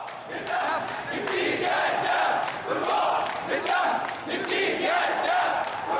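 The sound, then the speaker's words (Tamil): A large crowd of Morsi supporters chants slogans in unison in Nahda Square, Cairo, loud and sustained, with rhythmic rising and falling surges of many voices shouting together. “கெய்ரோவின் Nahda சதுக்கத்தில் Morsi ஆதரவாளர்கள் எழுப்பிய கோஷங்கள் அவை.”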